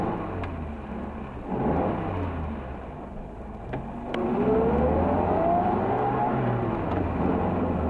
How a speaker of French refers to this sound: et machinalement mit le contact, et la voiture démarra.